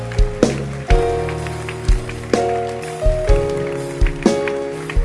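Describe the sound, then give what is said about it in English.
A crowd claps steadily for their pastors as a dense, crackling patter, with sharper accented hits at a regular beat, over sustained keyboard chords and bass of live music. “Keep clapping.”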